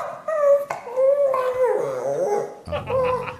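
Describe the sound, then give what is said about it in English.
Dogs howl and whine together in long, wavering high-pitched tones, with a few short yips breaking in between the drawn-out cries, loud throughout with no talking. “It's so like they're whining to each other”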